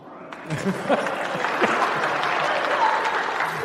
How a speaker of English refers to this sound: You didn't need to clap, but thank you.